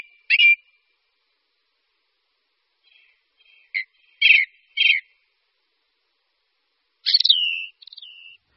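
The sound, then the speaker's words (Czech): A ring ouzel sings short, clear fluty whistles in brief phrases separated by pauses, ending with a longer slurred note, heard alone against a silent background. “Kos horský rád zpívá časně ráno i za soumraku na vyvýšených místech.”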